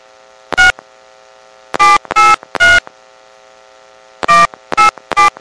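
Seven touch-tone beeps from a telephone keypad as an area code and phone number are dialed into a Sprint prepaid calling-card service, pressed in irregular groups with short pauses between, each a brief clear electronic tone over a faint steady hum.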